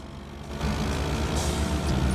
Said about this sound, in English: On his moped.